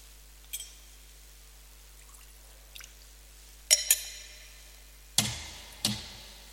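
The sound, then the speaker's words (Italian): A few small drops of water fall into a chalice of wine during Mass, scattered soft plinks and splashes that grow slightly louder toward the end, otherwise quiet, with no talking. “L'acqua unita al vino sia segno della nostra unione con la vita divina che l'ho voluta assumere la nostra natura umana.”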